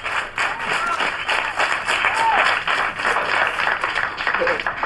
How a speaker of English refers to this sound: Bruce gestures for more applause.